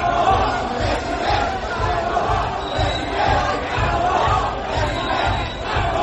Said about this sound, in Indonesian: Ribuan orang serentak menyanyikan lagu Halo Halo Bandung. Gedung tempat berlangsungnya pertemuan pun terasa bergemuruh. Mereka juga meneriakkan yel-yel Prabowo Presiden.